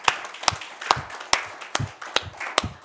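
Clapping from an audience in a slow, even rhythm, about seven sharp claps over three seconds, applauding a couple for their marriage the day before, with a soft murmur of background noise between beats and no talking.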